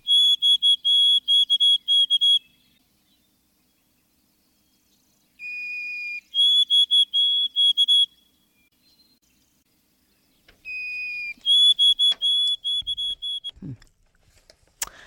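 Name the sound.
white-throated sparrow song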